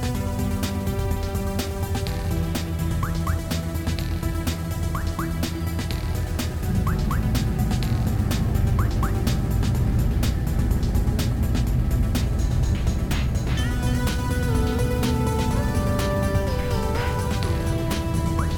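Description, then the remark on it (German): An old bus engine roars loudly and continuously, with heavy low rumbling, rattles and clanks, and whining tones that rise and swell as the ancient bus strains upward, lifting off into flight toward the moon after a countdown. “Der Bus ist so uralt, der fliegt niemals.”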